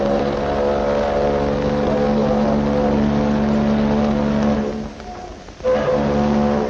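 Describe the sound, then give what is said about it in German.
A tender boat's horn sounds a long, steady farewell blast, loud and brassy with a rich low tone, breaks off briefly near the end, then starts again. “Das war der Abschiedsgruß des Tenders.”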